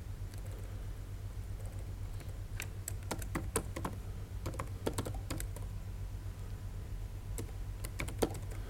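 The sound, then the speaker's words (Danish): Irregular bursts of crisp keyboard clicks from someone typing a username on a computer keyboard while connecting Excel to an OData feed, with pauses between keystroke clusters over a steady low electrical hum. No one speaks. “Og så skriver jeg så brugernavn.”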